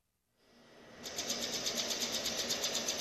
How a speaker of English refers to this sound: A projector casts four images on a wall. It makes a clicking sound, and then the images spin as if they were reels on a slot machine.